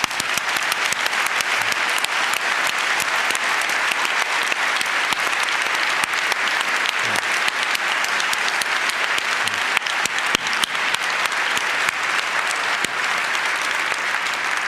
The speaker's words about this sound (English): If any of you guys are here, I would invite you to stand up and all of us to make a round of applause for all of these people.